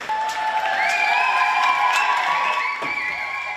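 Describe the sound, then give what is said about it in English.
A crowd outside a courthouse in Paris cheers steadily as a former actress leaves court after a film director she accused of assault is found guilty, a dense wash of overlapping shouts and high whoops with scattered clapping, sustained and fairly loud throughout. “Cheering there as former actress Adèle Haenel left a court”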